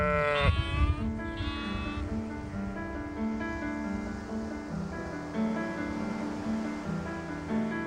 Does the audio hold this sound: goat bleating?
yes